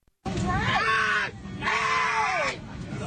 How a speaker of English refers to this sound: and you can hear by this, let's just hear the beautiful screams of yet another satisfied United customer.